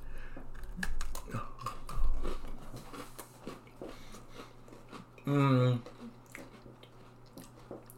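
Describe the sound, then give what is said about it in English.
Crunchy chewing of pumpkin Oreo cookies, a run of crisp crackling bites with soft mouth noises, followed by a brief hummed "mmm" of approval over a low steady hum. “These are pretty pumpkin-y. They smell pretty pumpkin-y. Oreos, cheers.”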